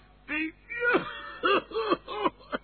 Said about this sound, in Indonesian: Hei, kenapa ini? Baris kau pakai batuk-batuk segala. Sini kamu. Aduh, Pak. Saya batuk, Pak.